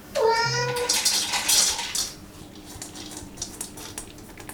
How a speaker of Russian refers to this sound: Кормушка для кота. Хозяин демонстрирует ее в работе. Алиса, покорми Досика.